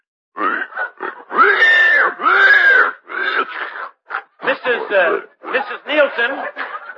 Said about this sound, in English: Let us go over and visit with her while she is feeding her pig.